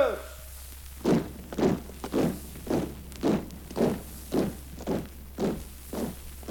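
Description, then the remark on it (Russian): Steady marching footsteps of a detachment of soldiers, about ten heavy, evenly spaced thuds falling at a brisk regular cadence, moderately loud, with no voices over them. “Товарищи бойцы, проводник впереди, шагом!”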